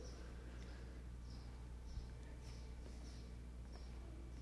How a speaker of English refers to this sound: Why is that obnoxious bird making noise right now?